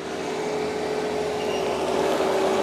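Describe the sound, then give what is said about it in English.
A small tractor engine, used to drill holes in hard-packed volcanic soil on a fenced-off acre of flat, fallow field being prepared as a marijuana farm, runs at a steady idle, a constant rumbling drone with a sustained hum, holding even loudness throughout with no voices. “Rita's hired a neighbor with a small tractor to help get her started.”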